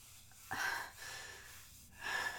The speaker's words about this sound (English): Her breathing becomes heavier and heavier as she watches her servant suck your cock deeper and deeper.